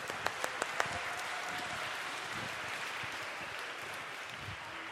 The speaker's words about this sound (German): Einen großen Applaus für unsere Schafherde.